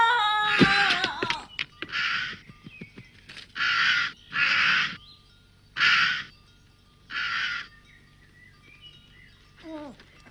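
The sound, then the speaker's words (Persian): A bird caws loudly and harshly five times, each call short and raspy, spaced unevenly with brief quiet gaps between, after some scattered chirps at the start. “اگه اون پرنده نمیخواست به این روز نمیافتاد.”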